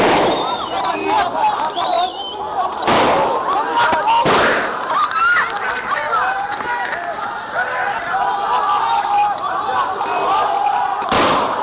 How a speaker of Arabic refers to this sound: اطلاق النار 13/2/2012. الله اكبر، الله اكبر. اطلاق النار، قوات الجيش تطلق النار على المتظاهرين.